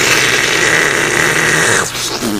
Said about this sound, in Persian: سیفون کشید، آقا رفت. خیلی بد بود. این صدای سیفونی بود که شما رو سر اون آقا کشیدی.